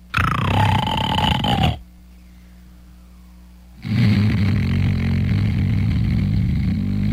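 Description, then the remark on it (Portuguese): Two loud, rumbling snores, the first short and the second longer, separated by a brief quiet pause for breath, with no talking. “Eu ronco muito.”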